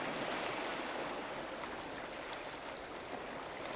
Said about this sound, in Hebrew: אתם לא צריכים לעשות שום דבר, רק לשכב שם ולהתמסר למוזיקה של הגלים